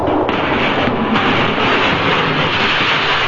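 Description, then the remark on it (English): A loud, dense rumble of an elevated train clattering along its tracks in heavy snow, steady, with harsh metallic rattling bursts over a continuous roar and no voices. “And finally, only the elevated railroads kept traffic moving. And when one engineer, blinded by the snow, crashed into another train...”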